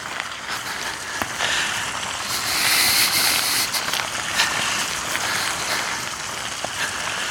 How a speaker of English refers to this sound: So we've got the sound of the running water here. This is coming from, there's a pipe where it drains. This is very useful. Drains the water that comes in at the top here.